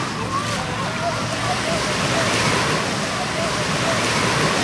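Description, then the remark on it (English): Steady, loud Atlantic Ocean surf roars continuously, a dense wash of crashing and rushing water with no pauses. Faint voices murmur beneath the noise. “And we're now, like, standing at the Atlantic Ocean.”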